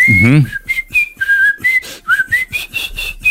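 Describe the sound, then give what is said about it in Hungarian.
Someone holding a phone whistles a bright, wandering melody of short and sustained notes so the phone's song recognition can identify it, fairly loud, with a brief breathy vocal sound at the very start. “Pislantott egyet és mész, fütyülsz.”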